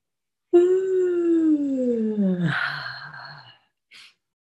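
A person lets out a long, drawn-out yawn, the voiced tone sliding slowly downward before breaking into a breathy, rumbling exhale, followed by a brief soft breath. Alone.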